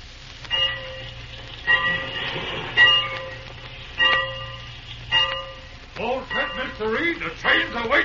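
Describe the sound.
A train idles with a steady low rumble while its bell clangs several times at a slow, uneven pace, each ring lingering; voices begin talking toward the end.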